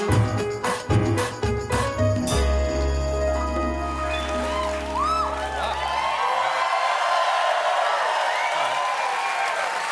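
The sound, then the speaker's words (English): The studio audience of The Late Show with Stephen Colbert cheers and applauds steadily, with scattered whoops, as guests are welcomed, while a band plays punchy hits and a held chord that stops midway, leaving the crowd noise on its own. “Good crowd. Very good crowd.”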